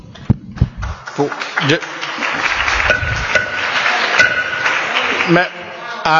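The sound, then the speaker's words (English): A burst of applause and cheering from guests in the gallery during a session of the North Carolina legislature, a dense, steady clatter of many hands clapping that holds for several seconds, with voices calling out within it before it dies down. “Our guests in the gallery, we do not allow interruptions of session either through applause, booing, or any kind of thing.”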